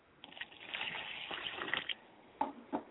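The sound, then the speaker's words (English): Water poured onto the ground as a libation in a ritual pours in a steady, splashing gush for almost two seconds, then stops, followed by two short splashes. It sounds fairly quiet, with no one speaking. “And I pour water to the ground, and I say Wotutu.”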